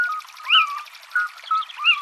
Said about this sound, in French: Ce oui-ou, c'est la chouette chevêche.